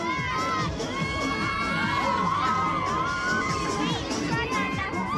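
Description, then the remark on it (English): A dense crowd of teenagers screams and shrieks with laughter, continuous and loud throughout, rising and falling in excited waves as they ride a giant fairground ride that throws them up in the air. “They're all laughing and screaming.”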